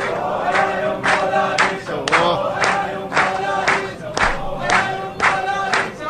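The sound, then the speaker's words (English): A crowd in Baghdad, Iraq celebrates Iraq's unexpected victory in the Asia Cup football tournament with loud, continuous cheering and chanting, punctuated by regular rhythmic claps or shouts roughly twice per second. “This is Iraqi celebrating their unexpected victory in last year's Asia Cup football/soccer tournament.”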